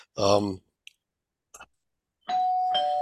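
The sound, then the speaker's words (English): A doorbell chimes near the end, two sustained ringing tones in quick succession, preceded by a brief vocal sound and a couple of soft clicks. “Doorbell.”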